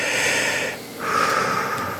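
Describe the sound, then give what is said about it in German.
A single deep breath, drawn in with a loud airy rush, then a brief pause and a long, noisy exhale, with no talking. “Ich weiß, nach diesem Schreck mit dem, Sie müssten was abnehmen, musste ich erstmal ganz tief durchatmen.”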